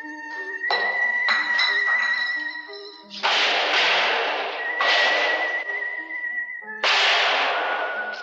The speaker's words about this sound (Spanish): Da una patada a la chapa y, blandiendo su bastón negro con gesto cansino, asciende por la escalera.